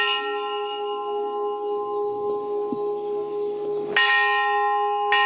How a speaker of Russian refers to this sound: Этот колокол как одинокий голос храма, но он жив и есть вера, что храм в честь Покрова Пресвятой Богородицы будет возрожден.